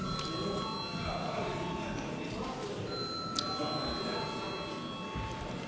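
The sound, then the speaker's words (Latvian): A parliament voting bell rings steadily without a break before deputies vote on a proposal, a sustained bright electric tone with layered overtones, while a low murmur of voices and shuffling continues underneath. “Deputāti prasa balsojumu, lūdzu zvanu.”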